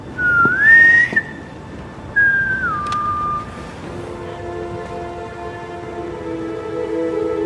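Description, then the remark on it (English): A clear two-part whistled signal, Clint whistling the special whistle between Yelena and Natasha: a rising tone that holds, then a second tone that steps down, against a background of steady rain and low rumble, with no talking. “It's the special whistle between Yelena and Natasha.”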